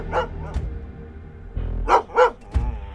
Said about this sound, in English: he wakes up to the sound of the family dog barking.